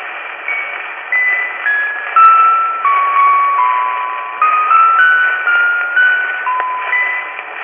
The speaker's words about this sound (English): Note the ringing clarity of the orchestra bells.